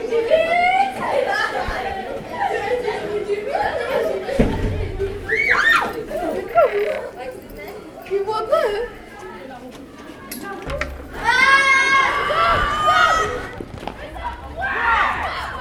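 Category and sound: crowd, pupils shouting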